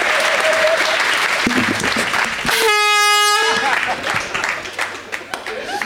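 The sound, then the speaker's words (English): A loud, brassy air horn blares once for about a second, cutting through a burst of enthusiastic applause and cheering that continues before and after it. “Hit that air horn.”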